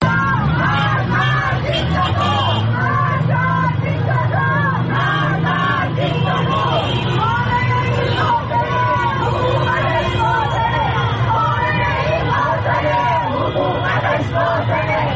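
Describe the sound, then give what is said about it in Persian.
A large protest crowd in Tehran, gathered after news of Mahsa Amini's death, chants slogans against state officials, including the leader of the Islamic Republic, in unison. The chanting is loud and continuous, with rhythmic shouted phrases rising over a dense background of voices and street noise. “در این اعتراض‌ها شعارهای علیه مقام‌های حکومتی و از جمله رهبر جمهوری اسلامی سر داده شد.”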